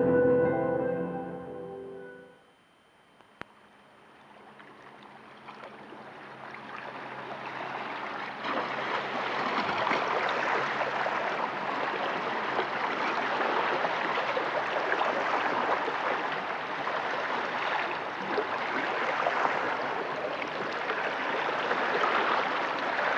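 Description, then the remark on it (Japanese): Sea water laps and trickles continuously at Yonago fishing port in Tsuruoka, Yamagata Prefecture, Japan, a dense, steady wash of gurgling and splashing after a brief musical intro, fairly loud with no voices. “海の音が聞きたいというリクエストがありましたので、私が取りためた音の中から一つ、山形県鶴岡市にある米子漁港から面白い音をお送りしたいと思います。”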